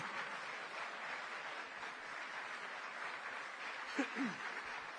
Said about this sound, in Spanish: Entonces, por eso... aplauda nomás mientras tomo agua.